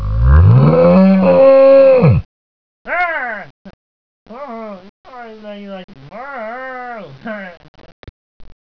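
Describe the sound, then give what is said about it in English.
A single long, loud cow moo rings out for about two seconds at a cow farm, followed by people's voices talking and laughing in short bursts. “Leave the cows alone, right?”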